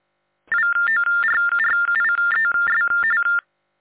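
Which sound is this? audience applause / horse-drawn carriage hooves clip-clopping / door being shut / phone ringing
phone ringing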